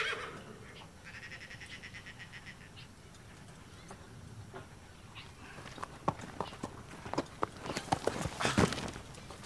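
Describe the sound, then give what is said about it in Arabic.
A horse whinnies with a drawn-out, wavering call early on. Hooves then clip-clop in an uneven run of sharp knocks that grow louder toward the end. “حتى لو سألت هذا الحصان سوف يجيبك بأن المطر قد ازداد هطولا، وأنه قد تناول حصة أكبر من العلف.”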